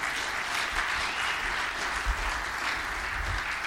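A church audience applauds a man invited up to tell of a crisis in his family. The clapping is a dense wash of hands that holds at an even, fairly loud level for a few seconds, with no voices.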